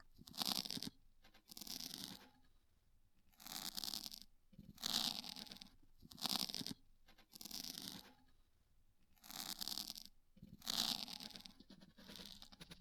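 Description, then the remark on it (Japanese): Repeated scratchy scraping strokes come in steady bursts about every one to one and a half seconds, a crisp, rasping sound of an ear pick working inside an ear, with no talking. “カリコリカリコリ、お耳がどんどん綺麗になる。”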